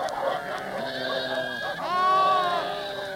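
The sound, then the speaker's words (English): Sheep running around in a panic bleat in a field, several wavering, strained cries overlapping, with a louder bleat rising midway and holding to the end, sounding agitated and panicked. “Better try to stop the sheep chasing round”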